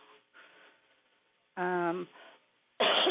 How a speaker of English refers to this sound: I'm sorry for coughing. I've been trying so very hard to not cough in your ear.